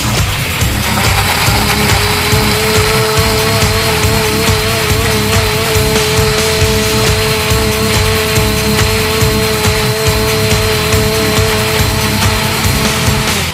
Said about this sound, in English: Cover the blender tight. Put your hand on top. Keep it from popping off. You don't want it to bukkake your face. And put the pedal to the metal.